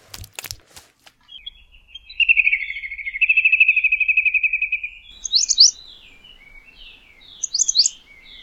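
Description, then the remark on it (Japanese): Birds chirp outdoors in bright, trilling bursts, one long warbling phrase followed by short high twitters, with a faint click or two at the start and no voices. They are heard through an open window. “ああ、確かに窓は開いているな。安心しろ。来客の予定はないよ。見ているのは鳥だけだ。”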